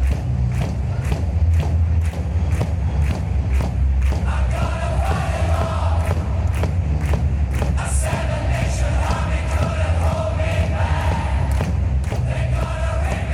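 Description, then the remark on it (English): About 15,000 people in a giant stadium slap their chests in a steady, loud rhythm of heavy thuds, roughly two per second, while a mass of voices chants and sings along underneath. “They're all slapping their chest.”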